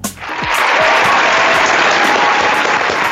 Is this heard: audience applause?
yes